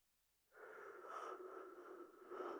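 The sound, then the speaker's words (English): A long, drawn-out yawn begins after a half-second of quiet and stretches on steadily, a breathy, voiced exhale that holds fairly loud to the end with no talking. “Stop yawning. Stupid body of mine.”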